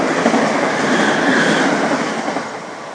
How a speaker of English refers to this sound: Oh, another train coming. In fact, I think what I'll do this time is just leave the mic going and you can get the full ambience of my current location.